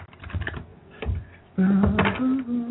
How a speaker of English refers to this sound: I am shuffling the cards as we speak for you. All I need you to do is tell me when to stop.